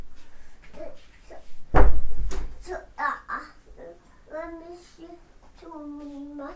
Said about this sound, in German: Was hast du gemacht? Zugemacht. Zugemacht. Was hast du zugemacht? Die Tür. Bitte? Die Tür. Die Tür hast du zugemacht.